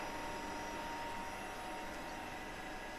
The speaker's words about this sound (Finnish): Seuraava ääni johdattelee meidät Helsingin yliopiston kiihdyttimelle Kumpulaan.